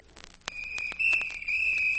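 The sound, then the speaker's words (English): A mail girl's shrill, high-pitched whistle begins abruptly after a sharp click and holds one steady note for about a second and a half, with faint taps and clicks scattered underneath. “Well, that's the mail girl's whistle.”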